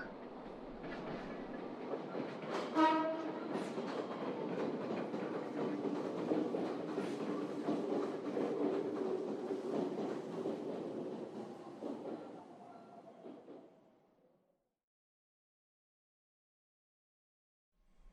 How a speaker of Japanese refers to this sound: あ、電車来た